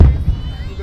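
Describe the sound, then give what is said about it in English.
A deep fireworks finale boom hits hard at the start, followed by a second muffled thud and a low, rumbling tail that lingers for the rest of the moment. “Oh, is this the finale? Wow, it's like a cannon shot.”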